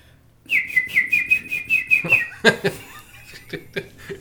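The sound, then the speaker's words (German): A run of quick, bright whistled chirps imitates bird twittering for about two seconds, followed by a few short chuckling bursts and scattered clicks, moderately loud. “Hey, da kommt der richtig ein Zwitschern.”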